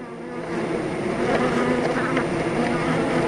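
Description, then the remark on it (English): A dense, steady hum of many Carniolan honey bees buzzing together, a continuous droning swarm sound that stays fairly loud throughout, with no voices. “Our listeners, Sukina and Michael, sent us the sound, and you're listening to carnelian bees, which are supposed to be hardier in our winter climate than the other bees that are most widely distributed in the world, the Italian bee.”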